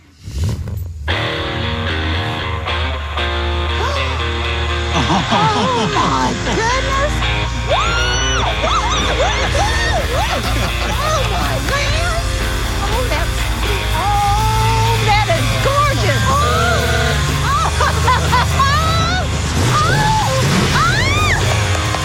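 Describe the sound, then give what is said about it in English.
A 1934 Ford hot rod with a rebuilt 327 engine drives in with a deep, steady, loud engine rumble, while excited people whoop and yell over it the whole time. “Bring that gorgeous car in here, man.”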